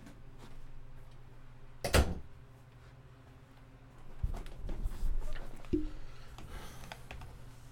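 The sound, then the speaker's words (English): An office door shuts with a sharp, solid thud, followed by a few seconds of quiet and then shuffling handling noises ending in a brief click. “The door to my office here is open. We're going to have an interruption in the podcast.”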